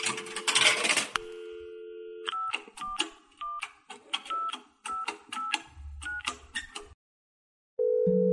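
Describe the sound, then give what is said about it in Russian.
A coin clatters into a payphone slot with a sharp metallic jingle, followed by a quick run of electronic dial tones as a number is punched in, ending in a steady tone. “Я уронил монету в щель и набрал номер.”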